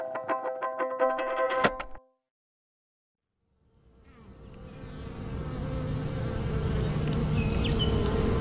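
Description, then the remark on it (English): After a brief tonal burst and a moment of silence, a dense honeybee buzz fades in and swells into a steady droning hum, with no voices. “Imagine you are a bee, a honeybee, and every morning you wake up in the greatest place on Earth.”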